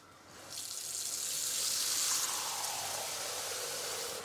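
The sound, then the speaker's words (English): A smart faucet dispenses exactly 2 cups of water, at 104 degrees, into a bowl. It starts abruptly after a brief quiet moment and continues as an even hiss of water with a slowly rising pitch as the bowl fills. “And then I wave again and it will dispense exactly 2 cups into my bowl for me.”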